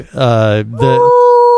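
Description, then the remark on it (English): A person imitates whale song with a long, wavering vocal moan that swoops and breaks, then settles into a steady high tone; loud, with no words. “Now, I will tell you, you can sing underwater. When we're on our trip to the Turks and Caicos. Like a whale.”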